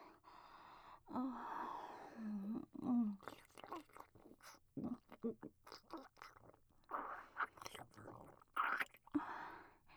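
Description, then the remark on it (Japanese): Moist chewing and soft smacking mouth noises come in irregular bursts as soft, mushy potato is eaten, mixed with breathy gasps and quiet, whispery voice sounds. “どうぞ、もぐもぐ、おいしいでちゅね。おむおむ、はーい、ごっくん。”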